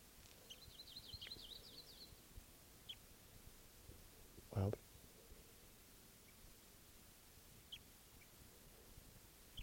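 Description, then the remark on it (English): Soft, high-pitched bird chirps twitter in a quick series from birds foraging in the tops of trees some way off, then come as a few scattered single peeps over a quiet background, with one brief low thump partway through. “They're foraging up in the top of these trees.”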